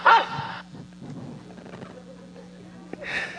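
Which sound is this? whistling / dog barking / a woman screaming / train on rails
dog barking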